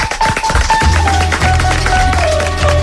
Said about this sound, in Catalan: No deixin d'aplaudir